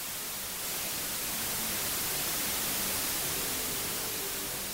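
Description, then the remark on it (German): Steady white noise, containing all audible frequencies equally loud, hisses evenly across the whole range, starting after a brief quiet moment and continuing without change, no voices present. “Das ist weißes Rauschen. Es enthält alle hörbaren Frequenzen gleich laut und erscheint uns deswegen unangenehm, ohne Struktur.”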